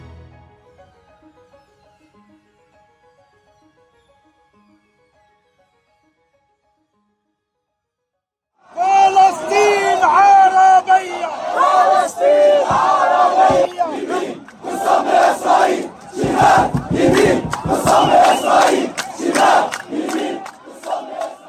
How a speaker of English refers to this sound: The war in Gaza has provoked mass demonstrations across the Muslim world, with huge crowds turning out in capitals as far apart as Jakarta, Cairo, and Istanbul.